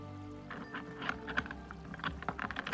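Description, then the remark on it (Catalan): Small metallic clicks and jingles come in a quick, irregular cluster as keys rattle and work the front door lock, fairly quiet, with no voices. “Ui, sento les claus de la porta.”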